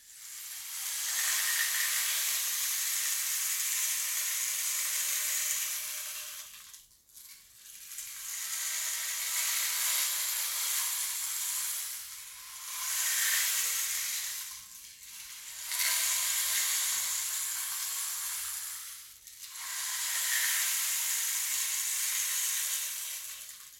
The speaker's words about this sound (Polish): Jednak słońce ogrzewało ją swoimi promieniami. Była bardzo gorąca i zaczęła parować.